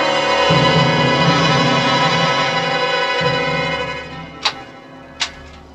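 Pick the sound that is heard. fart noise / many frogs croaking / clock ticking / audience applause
clock ticking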